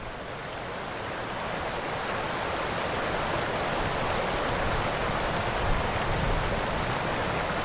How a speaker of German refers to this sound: Unter euch das leise Plätschern der Moldau.